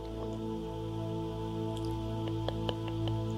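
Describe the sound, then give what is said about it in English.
Rain falling outside, heard as a few faint, scattered drips and taps against a steady low hum, with no one speaking. “Oh, I think it's raining.”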